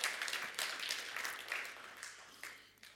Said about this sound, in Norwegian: Ja, kom igjen. La Jesus få en applaus.